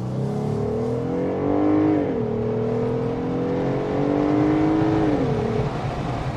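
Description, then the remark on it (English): A Pentastar V6 truck engine, driven with the top down, revs up steadily through the gears of its quick-shifting 8-speed ZF automatic transmission, climbing above 6,000 RPM, the pitch briefly dropping at each shift, with a constant rush of wind noise underneath; no one speaks. “So that was the acceleration of the Pentastar.”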